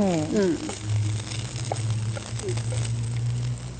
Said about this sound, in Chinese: 那这个时候哈，我这个是用慢火去煎，那其实也是很快啦。